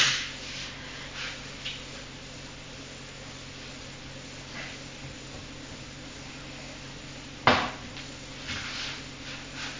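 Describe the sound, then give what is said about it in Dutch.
A knife scrapes and cuts inside a metal pot, with a few soft intermittent scrapes and one sharp clink near the end, against a quiet hum. “Ga je een beetje snijden in de pot.”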